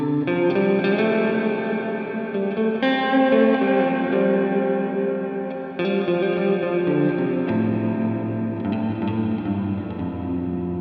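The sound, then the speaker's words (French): Sustained guitar chords ring out as the reverb mix knob is turned up from a fully dry signal, each strum blooming into a lingering, washy tail as the wet ambience swells around the dry tone. No one speaks. “Et quand j'augmente, on entend déjà la reverb.”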